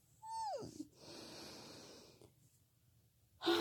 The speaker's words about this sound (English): Fuck, you're not even here to say my yawns are cute.